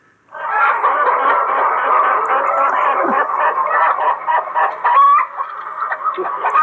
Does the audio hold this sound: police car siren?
no